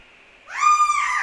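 A lone bird lets out a drawn-out, mournful cry that swells up and then holds a steady, slightly wavering tone, fairly loud with nothing else around it.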